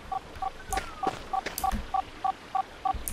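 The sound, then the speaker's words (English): A video game item sound signalling a health boost item: a steady train of about ten short, evenly spaced two-tone electronic beeps, mid-pitched and fairly loud, with a few faint clicks and bursts of game noise underneath. “So that kind of beeping noise is an item.”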